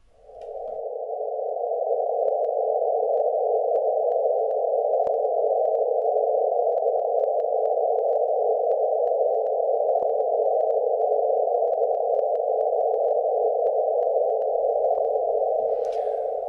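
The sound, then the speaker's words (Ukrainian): A sonified gravitational-wave signal: a steady, loud, mid-pitched droning hum that holds unchanged for about sixteen seconds, with faint crackles and clicks scattered through it and no talk. “Ну, ніби так звучать гравітаційні хвилі.”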